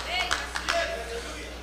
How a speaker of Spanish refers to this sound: Ya solo tres aplausos se oyen, hermano. Híjole.